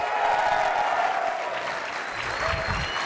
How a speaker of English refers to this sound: And how many people think Metal Gear Solid Peace Walker is? Yeah. Okay. That was like applause for Greg Miller. What do you mean that's applause for Greg Miller?